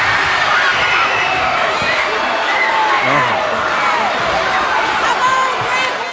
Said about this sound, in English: Now, I played it early so that you can hear the crowd. You need to go back and hold on. You need to go back and check that, because that shit was so crazy that it broke Skype on my end, and it just sounded like a bunch of digitized nonsense.